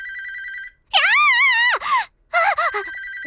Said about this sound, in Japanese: 電話か。